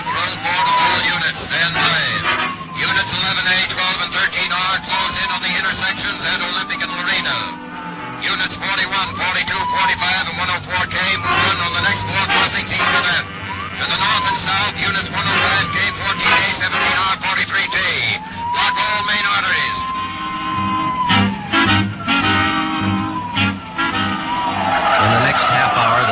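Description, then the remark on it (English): A frantic police car chase at high speed, headed east on Olympic and crossing Soto Street: engines roaring, tires squealing and skidding repeatedly, with car horns blaring throughout, loud, amid busy traffic noise. “We're traveling at a high rate of speed, headed east on Olympic, crossing Soto Street.”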